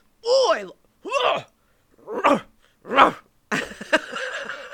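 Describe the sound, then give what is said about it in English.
A voice imitates a rapper's dog-like barking: four loud, separate woofing yelps at a steady pace, then a rougher, noisier bark-like burst trailing off at the end. “Like, I loved him barking love.”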